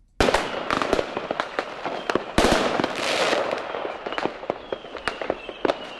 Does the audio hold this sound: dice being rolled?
no